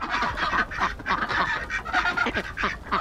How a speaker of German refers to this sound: Enten beim Frühstück. Es sind Rouen-Enten. Sie wurden im 18. Jahrhundert in der Normandie nahe Rouen gezüchtet und keine 100 Jahre später wurden sie auch in Deutschland eingeführt. Die Rouen-Ente ähnelt der deutlich kleineren Wild- oder Stockente.